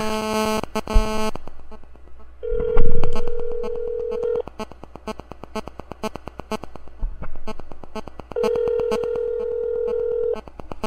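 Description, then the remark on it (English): A steady electronic ringback tone of an outgoing call to a mobile phone sounds twice, each ring lasting a couple of seconds with a pause between, over a harsh, crackling static buzz that runs throughout. “All right, we're going to go ahead and call”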